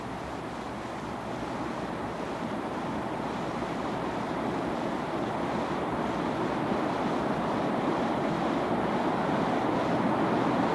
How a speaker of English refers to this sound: as you move down the river, to try as best as you can to allow the sound, if you will concentrate just a few moments, on the sound of the river.